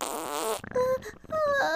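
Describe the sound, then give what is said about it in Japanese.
A fairly loud fart on a train: a raspy, sputtering burst followed by a few squeaky, higher-pitched bursts with short breaks between them, with no talking. “でも今緩めたらおならがまた。”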